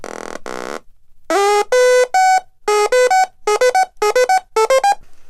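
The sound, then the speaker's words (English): A buzzy electronic synthesizer built from snap-together modules (a blue power bit, an oscillator generating the sound wave, a speaker, a keyboard and an added sequencer) plays a quick sequenced pattern of bright harmonic-rich notes. First a short burst, then repeating stepped tones in a steady rhythm that speeds up toward the end, with no voices. “Add a sequencer.”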